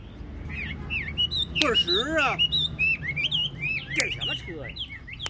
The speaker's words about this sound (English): Up above, the birds chirp in their cages hanging from trees.